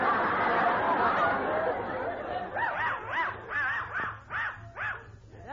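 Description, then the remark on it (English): A dachshund barks in a quick series of about seven high, yappy barks, fairly loud, after a few seconds of busy crowd chatter that fades beneath them. “Where'd you get that funny-looking dog?”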